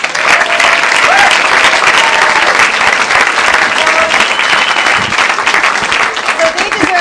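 Sustained audience applause, a dense, steady wash of many hands clapping at an even, loud level for the full stretch, with faint crowd murmurs mixed in.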